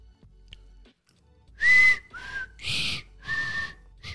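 A person whistles a short hip-hop tune, four breathy, fairly loud notes in quick succession after a brief quiet start, with no talking.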